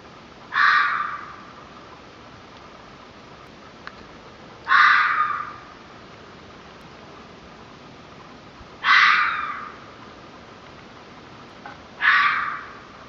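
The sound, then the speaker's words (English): A red fox gives four harsh, raspy barking screams, spaced about four seconds apart, each loud and short against a quiet outdoor background with no talking. “This first sound is a red fox, the sound that I heard that morning.”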